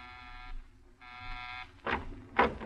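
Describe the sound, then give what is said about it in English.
An apartment door buzzer sounds twice with a harsh, harmonic electric drone, a half-second burst and then a longer one, followed by two sharp clattering noises. “You pause for a moment before you buzz.”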